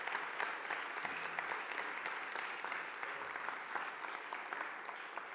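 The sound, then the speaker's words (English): A crowd claps steadily for several seconds to thank people for their service, a dense, even patter of many hands at a fairly constant moderate level with no voices standing out. “But can we just give them a round of applause real quick?”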